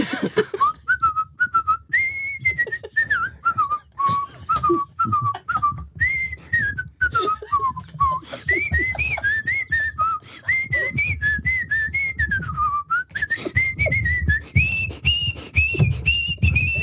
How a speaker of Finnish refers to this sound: Kuka ottaa vielä viimeisen? Otetaan yksi toive uusinta. Kuka haluaa viheltää vielä kerran?